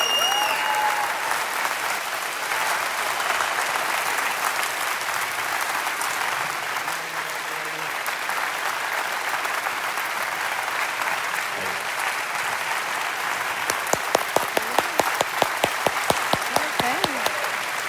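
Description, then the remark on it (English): An audience applauds steadily to welcome guests Jay and Catherine Wolf onto a stage, a dense wash of clapping that holds throughout, with a few sharper, louder individual claps standing out near the end. No one speaks over it. “So if you would, put your hands together, maybe even make a little noise for Jay and Catherine Wolf.”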